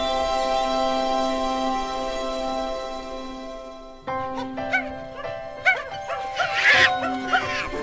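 A steady droning tone gives way halfway through to a noisy burst of a group of monkeys chattering in a forest, with many quick, shrill overlapping calls and squeals crowding together as the monkeys hold fruit and throw it back and forth.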